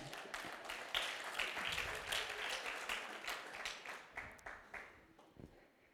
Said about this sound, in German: Applaus